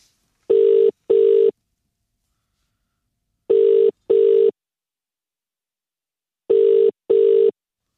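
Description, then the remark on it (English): A phone ringback tone repeating in double pulses, three pairs of steady electronic rings separated by silent gaps, heard clearly on its own with no talking. “Oh it's yes. Ringing.”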